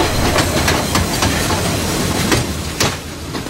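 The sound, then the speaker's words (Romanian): Long, wide pullman train wagons roll along broad-gauge rails with a steady rumble and hiss, punctuated by sharp, irregular clacks of wheels over track joints; no voices. “Or fi ele lungi și late, dar merg de parcă stau.”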